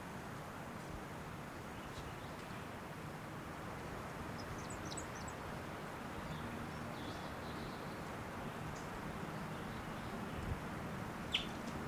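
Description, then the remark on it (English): A few faint, high, short calls from a wild bird of unknown sex chirp briefly near the middle, nearly buried under a steady low rumbling background noise; no one speaks. “Oh, that is a that same bird. Not sure what sex it is.”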